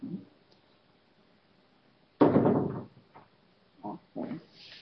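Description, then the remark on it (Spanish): A door is opened with a sudden loud scrape and rattle, followed by a few shorter knocks and creaks. “Cuando empiezan a abrir la puerta, digo, ya nos van a echar.”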